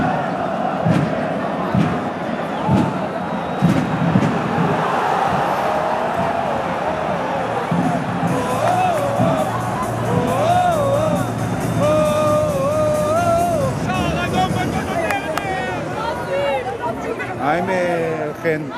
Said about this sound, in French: Et l'atmosphère est plutôt très tendue, avec des jets réguliers d'objets, de gobelets, et des chants plutôt véhéments.